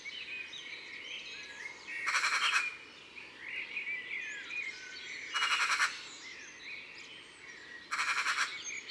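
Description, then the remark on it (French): Three harsh, rattling magpie alarm calls, each about half a second long, cut through a busy background of other birds chirping and whistling, loud, in a town. “Ce n'est pas très mélodieux, la pie. Surtout ce genre de cri d'alarme.”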